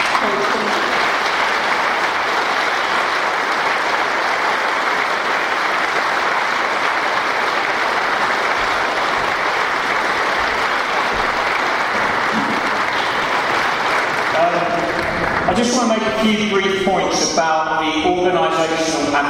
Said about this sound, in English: can we have a huge round of applause for Danny Dorley?